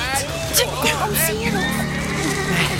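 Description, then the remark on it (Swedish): Several horses ridden by six soldiers neigh and whinny in overlapping, wavering calls, loud, with hooves clopping over a steady low rumble of background commotion. “Sex stycken soldater på hästar.”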